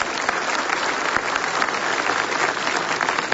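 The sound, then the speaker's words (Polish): Steady applause from an audience at a pilgrimage to Saint Joseph, thanking a priest professor, a dense crackle of many hands clapping at an even, sustained loudness throughout, with no voices rising above it. “Tak należą się oklaski, poznania przykład.”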